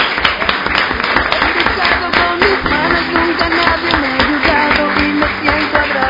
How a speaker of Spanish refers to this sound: Y con este aplauso nos vamos